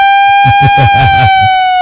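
A steady, high electronic siren tone holds loud and unbroken throughout, sagging slightly in pitch at the end, while a voice talks over it in short bursts.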